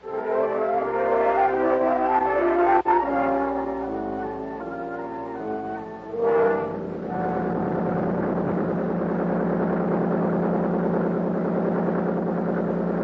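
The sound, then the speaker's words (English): A Big 35 outboard motor on Buster's boat drones loudly and continuously up a lake on a clear, warm day, its pitch shifting as it revs in the first few seconds before settling into a steady, throaty cruising roar at an easy 39, with no voices. “Big 35 on Buster's boat moved us up the lake at an easy 39.”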